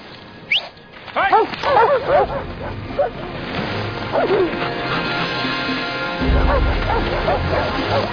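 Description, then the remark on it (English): A team of sled dogs spread in a fan formation on ice barks and yips excitedly, several voices overlapping in quick bursts, with a steady low rumble of wind or movement underneath. “Put the dogs in the fan formation for safety.”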